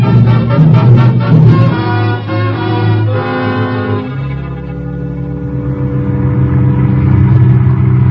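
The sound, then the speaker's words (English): A car engine revs and pulls away, its pitch climbing and shifting as the car drives on steadily to the edge of the city, loud throughout with no voices. “We get into the car and drive here to the edge of the city.”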